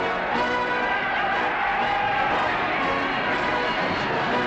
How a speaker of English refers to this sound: Ha! It is he! The Victory is coming in! Just listen to that crowd roar!